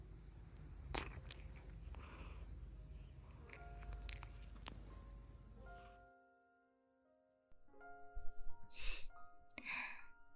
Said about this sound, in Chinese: 猫咪之间就是会这样互相舔舐毛发的，这样做可以安抚到对方。